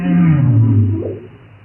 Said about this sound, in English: And when the humpback whales are being very, very loud, it sort of covers up where the fish choruses are being loud.